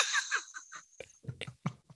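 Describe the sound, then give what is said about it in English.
A single loud sneeze bursts out sharply at the start, followed by a few short, softer breathy sounds and sniffs that trail off quickly. “Oh, God bless you”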